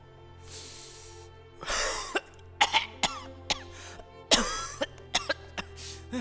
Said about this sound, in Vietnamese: Nói rồi ông ta kéo một hơi. Thắng cũng vậy, xong thì lại ho sặc sụa.